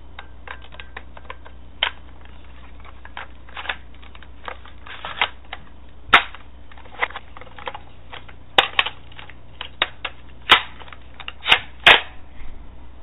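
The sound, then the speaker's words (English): A machine gun assembly sound effect: irregular sharp mechanical clicks and metallic clacks, scattered unevenly, with several louder snaps toward the end and no talking. “Well, I think the soundbite is called Machine Gun Assembly.”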